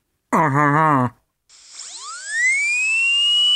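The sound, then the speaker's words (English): A high-speed dental drill with a burr drilling into a tooth, loud: a short buzzing burst, a pause, then a thin whine that spins up in pitch and settles into a steady, piercing scream. “Drilling into a tooth at high speed, you obviously get a lot of heat buildup.”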